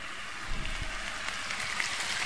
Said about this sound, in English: I'll never tire of hearing that sizzle on your pan, no matter what dish you're doing. It is, it's good, isn't it?